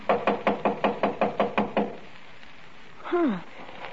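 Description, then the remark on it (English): A rapid, evenly spaced series of about ten knocks on a door, fairly loud, followed by a pause and then a brief voice. “Why don't you try the door? It was unlocked.”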